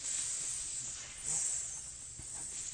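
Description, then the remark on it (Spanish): A voice imitates a snake's hiss, one long, breathy "sss" held for nearly three seconds, fairly loud and steady, swelling slightly in the middle before trailing on. “¿Y cómo iba la serpiente?”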